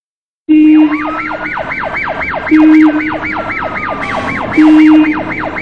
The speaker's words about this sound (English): But he can't fall asleep because it's too bright outside the window. And he can hear police cars, fire engines, cars and buses.